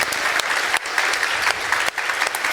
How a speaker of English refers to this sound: And without the volunteers, we could not do this conference. So big applause to those.